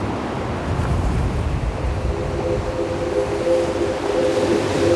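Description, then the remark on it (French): Ocean waves break into white foam, rolling and washing steadily as a continuous roar, with wind buffeting the microphone and a faint low engine-like hum underneath; no one speaks. “L'écume blanche des vagues.”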